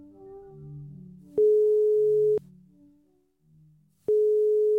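Two long, steady electronic ringback tones, each about a second, sound loud and clear over soft background music, with a pause between them, as an outgoing phone call to an internet expert at Internetstiftelsen waits to connect.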